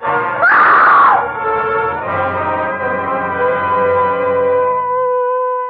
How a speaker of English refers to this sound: It was a good loud scream.